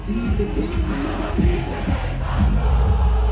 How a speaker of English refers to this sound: Notice the crowd of people in the video singing his song